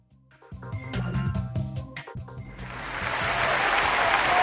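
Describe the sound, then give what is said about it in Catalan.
Music with a steady low beat plays for a couple of seconds, then a broad wash of audience applause swells up and keeps building, loud and dense, with no voices over it. The applause is for the residents of Ribera d'Ebre, Terra Alta and Priorat in Catalonia, for their selective waste collection. “Doncs també aquest aplaudiment per tots els veïns de la Ribera d'Ebre, la Terra Alta i el Priorat, que han contribuït, perquè ho hem fet tant entre tots, a trobar-nos, a situar-nos entre les comarques que millor realitzen la recollida selectiva”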